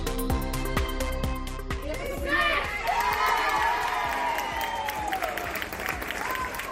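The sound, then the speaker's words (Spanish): A crowd claps and cheers joyfully at a school, with confetti, at 9 in the morning at the start of the school day. Dense continuous applause and excited high-pitched shouts and whoops rise over it, loud and sustained throughout. “Aplausos, confeti y gritos de alegría.”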